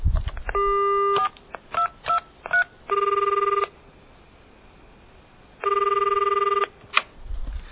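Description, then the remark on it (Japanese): A telephone call to a moneylender: a quick run of short keypad dialing beeps, then two long electronic rings separated by a pause, thin and band-limited like a phone line. No one speaks. “被害者は融資を受けたい一心で犯人の言うことを信用し、犯人が指定する口座に4万円を振り込み、すぐに貸金業者にそのことを電話しました。”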